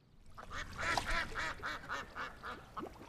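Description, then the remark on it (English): Ducks quack in a quick, steady run of about ten nasal calls, moderately loud, with a little background noise and no talking. “Shall we feed the ducks?”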